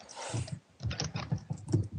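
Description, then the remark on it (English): Rapid typing on a computer keyboard, a quick run of clicky keystrokes in an irregular burst with no voices. “I couldn't type that fast.”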